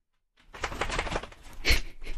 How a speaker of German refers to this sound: hat sich hier gerade mein Hund geschüttelt. Ich weiß nicht, ob du das gehört hast.